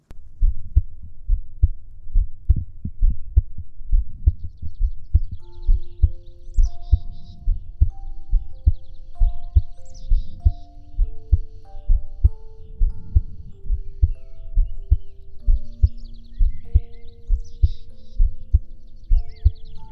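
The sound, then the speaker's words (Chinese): The speaker's own heartbeat, listened to by a doctor, thumps steadily in a regular rhythm throughout, low and muffled as if heard through a stethoscope, with soft sustained tones humming quietly in the background. “就像这样，要不要再重新听一下我的心跳呢？”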